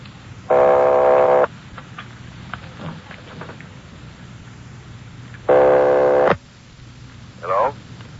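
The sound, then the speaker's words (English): A telephone line ringing as heard through the earpiece on a call from Los Angeles to Napa: two steady, buzzy ring tones about a second long, several seconds apart, over a constant hiss of line noise. “Keep ringing, 761. They're ringing the number, Sergeant.”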